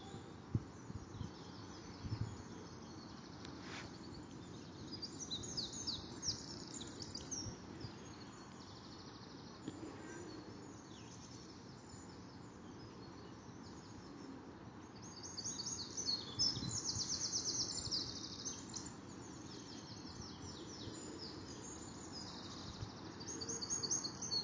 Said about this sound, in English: Now, just for a minute or two, we'll let the sound of the birds be predominant. I'm not quite sure how easy or difficult it is to make them out.